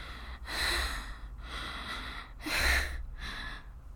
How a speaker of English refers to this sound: My panting. Does that excite you? Does that make you want me?